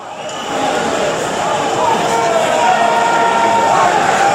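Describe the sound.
A dense, roaring concert crowd screams and cheers continuously while a band plays on stage, a loud wash of many voices that swells slightly after the first half second and holds steady throughout.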